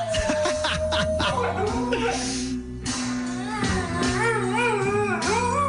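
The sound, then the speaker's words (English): A dog howls along with music, its wavering, rising-and-falling wails riding over a loud, steady backing track that plays throughout. “Dog is just howling along with it.”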